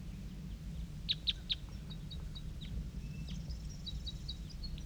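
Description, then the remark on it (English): A wild female bird that has just flown in calls with three sharp, high chirps, then a run of softer, quick high-pitched notes that continue on and off over a steady low rumble. “That's her calling right there.”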